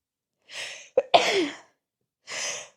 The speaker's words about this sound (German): Oh, ich habe das Gefühl, ich muss gleich niesen.